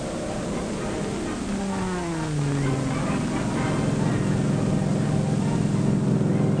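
Loud, steady droning of the propeller engines of a wooden Mosquito bomber doing a slow loop, their pitch sliding lower midway through, then settling into a constant roar. No voices.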